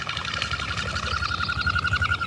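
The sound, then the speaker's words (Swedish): Whistling wingbeats of a common goldeneye: a steady, rapidly pulsing high whine that carries on for the whole moment, with no voices. “Men det läte som hörs oftast och går att uppfatta på längst avstånd från knipan är det här vinande vingljudet.”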